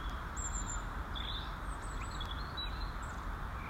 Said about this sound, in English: Already I can hear plenty of birds flitting round. There's a silver birch tree on my left with a few bird houses in. I've also seen a blue tit land on the branch next to me.